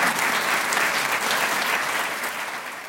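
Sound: audience applause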